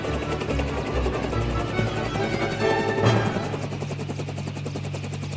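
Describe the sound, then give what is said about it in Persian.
A helicopter in flight, its rotor beating in a fast, steady chop over a constant engine roar and low hum, loud throughout with no one talking. “یه عده که میدادین هلیکوپتر رو من هدایت میکردم دیگه.”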